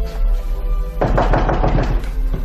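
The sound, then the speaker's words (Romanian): A rapid series of firm knocks on a wooden front door, about eight or nine sharp raps in quick succession, fairly loud over a low steady hum. “În sfârșit, într-un târziu, s-au auzit în ușa de la intrare niște bătăi.”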